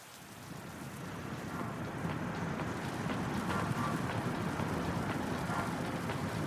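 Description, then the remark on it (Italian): Steady rain falls in a dense, continuous hiss with a low rumbling murmur underneath, swelling slightly in the first seconds and then holding even, over a quiet neighbourhood of small villas. No voices are present. “Cristina, d'improvviso, sente un grido rompere il mormorio della pioggia e il silenzio delle villette.”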